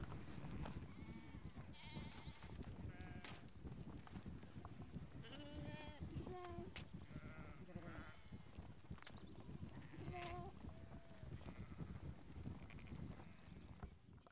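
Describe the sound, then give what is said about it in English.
Several sheep bleat repeatedly, their wavering calls overlapping above a steady outdoor rumble with faint voices in the background, in sunshine. “We're off to the sheep here, lovely.”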